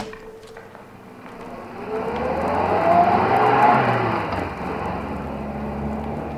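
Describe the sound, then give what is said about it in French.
A car engine starts, revs up and accelerates away, its whine climbing in pitch and growing louder before settling into a steady drone. No one speaks. “Eh ben, je vous conseillerais même pas de tarder à monter dedans, les crevettes.”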